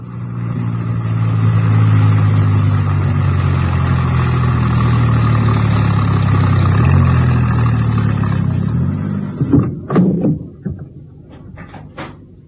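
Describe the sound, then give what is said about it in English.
A van engine hums with a steady, low rumble for about nine seconds as the van is driven into a small printer's yard on the west side of a town, then cuts out, followed by a few sharp clunks and knocks like a door opening and shutting. “My star operator was enjoying himself hugely and whistled happily as he drove the van into a small printer's yard situated on the west side of the town.”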